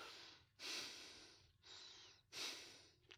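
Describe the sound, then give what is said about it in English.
Rapid, heavy breaths in quick succession, four or five loud airy inhales and exhales with short gaps between them, sounding anxious and strained, with no talking. “I hear you breathing awfully fast.”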